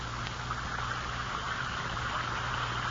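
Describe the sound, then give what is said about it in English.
An Alka-Seltzer effervescent tablet fizzes steadily as it dissolves in a glass of water, a continuous bubbling hiss flecked with tiny crackles over a faint low hum, with no voices. “Now, when you dissolve an Alka-Seltzer tablet or two in a glass of water like this, listen to it fizz.”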